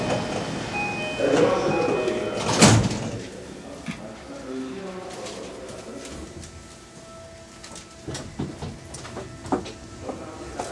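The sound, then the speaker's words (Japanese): Tokyo Metro Chiyoda Line subway train sliding doors shut with a single sharp thud early on in Tokyo, Japan, followed by a low hum of the carriage and scattered faint clicks and knocks as the train sits or starts moving. “扉が閉まります。ご注意ください。”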